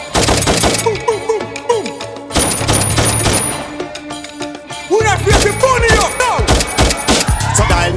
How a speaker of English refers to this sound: like a bumbo clad gunshot.